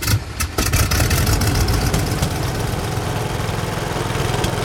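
A Delphi engine is fired up from a screen porch; it cranks briefly and catches, then settles into a steady, loud idle with a low rhythmic rumble that continues evenly to the end, no voices present.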